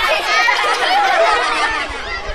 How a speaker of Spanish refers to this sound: Poco a poco el bullicio se calma y los niños entre risas y gritos prestan atención.